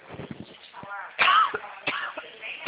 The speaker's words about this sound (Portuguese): Ih, a tosse tá boa. Nossa, moça, sabe quando o biscoito vai no lugar errado?